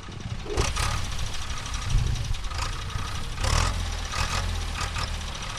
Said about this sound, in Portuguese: O som de um trator em Jalukolange, próximo da fronteira do Zimbábue com o Botswana, situado a cerca de 700 km a sul da Harare, preparando o terreno para os agricultores cultivarem.